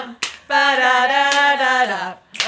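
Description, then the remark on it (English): A single loud, sustained whooping cheer holds one pitch for over a second and dips at the end, with a few sharp, scattered claps before, during and after it, as friends cheer someone on. “When I'm surrounded by my HRN buddies and they're all cheering me on. Like right now”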